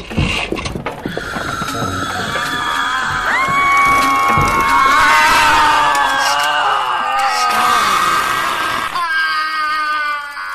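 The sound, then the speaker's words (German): Many clocks scream at once in a loud, dense chorus of overlapping high-pitched wails that rise and waver for about nine seconds before cutting off abruptly. “Ich bin schreiende Uhren gewöhnt.”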